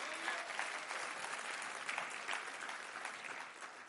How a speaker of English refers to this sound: Does anybody believe that today? Can we clap our hands and thank God?